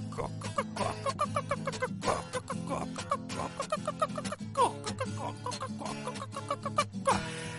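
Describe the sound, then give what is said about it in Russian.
A voice imitates a chicken clucking, "ko-ko-ko", in quick, repeated bursts as part of a sung song, grouped into short rhythmic runs over a steady low droning background, moderately loud. “Ко-ко-ко, ко-ко-ко.”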